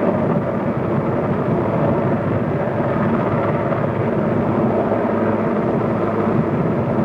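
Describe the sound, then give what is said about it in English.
A helicopter hovers overhead, proceeding slowly, its loud, steady rotor roar filling the air with a deep rumbling wash that holds constant throughout, with no voices. “The crew chief and the helicopter, taking his commander's advice, proceeding slowly.”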